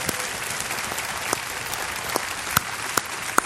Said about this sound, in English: Let's clap our hands